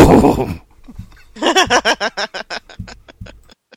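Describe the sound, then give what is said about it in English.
A person imitates a horse neigh while retelling a Robin Williams joke about Arnold taking horse hormones: a breathy burst, then a rapid series of wavering, quavering pulses that trail off, with no other talking. “He was talking about how Arnold was like really, really strong and stuff way back in the day, and he asked him, you know, Arnold, are you taking horse hormones? And he's like, no!”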